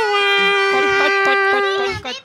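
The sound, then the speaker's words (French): A baby wails in one long, sustained, high-pitched cry lasting about two seconds, loud, with faint choppy sounds underneath before it breaks off at the end; heard at Bouillon Cube, a young cultural venue. “Et puis il y a des bébés.”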